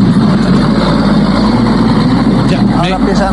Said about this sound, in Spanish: Está colapsado el tránsito por este momento y me parece que hay una colisión allá. No alcanzo a ver. Pero está colapsado. Ahora está la fuerza pública y ahora empiezan a avanzar los autos.